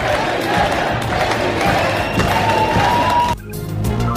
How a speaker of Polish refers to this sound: Właśnie tak, słowami prezydent, krzycząc to słowo, witali zgromadzeni w sztabie zwolennicy Petra Pawla. Co chwilę słychać to okrzyki, oklaski.